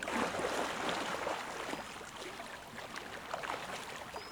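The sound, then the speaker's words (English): Steady splashing and churning of water from people swimming along the shore in cold, peaty water, with a dense wash of sloshing that starts loud and eases slightly but continues throughout, no voices. “Right, well, we swim along the shore here.”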